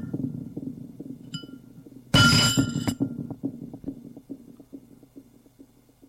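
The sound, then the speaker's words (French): A glass flask of dark brown liquid, dropped by a woman startled by a knock at the door, hits the floor and shatters in one sudden, loud crash, followed by a brief scatter of tinkling shards, all over a low, steady background hum. “Ça l'a fait sursauter et lâche le flacon qui tombe à terre et se brise.”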